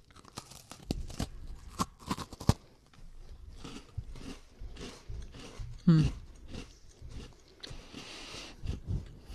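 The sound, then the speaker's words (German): Close, crunchy bites into a crisp cookie followed by wet chewing and crackling, with irregular bursts of crunching over several seconds and faint background murmuring. “Nee, ihr solltet jetzt reinbeißen.”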